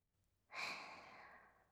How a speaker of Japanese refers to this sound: おお、大きなあくび。